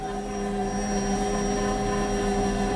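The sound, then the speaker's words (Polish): A bread machine on its fifth step, kneading the dough a second time for 2.5 minutes, with a steady, continuous electric motor hum and a faint whine of tonal overtones, holding an even loudness throughout with no voices. “Słyszymy, jak urządzenie sobie ciasto wyrabia.”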